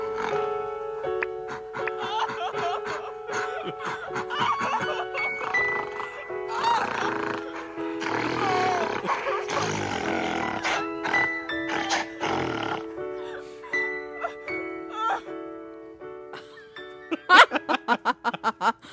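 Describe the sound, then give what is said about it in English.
A dog growls and grunts continuously alongside shrill screaming, loud, with sustained snarling throughout and a flurry of sharp, abrupt bursts near the end. “Well, that was me being raped by a dog.”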